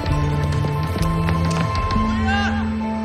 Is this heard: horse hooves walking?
yes